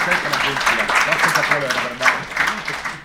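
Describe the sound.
An audience applauds the organizer steadily, a dense wash of many hands clapping at once, with voices talking and calling out underneath the whole time.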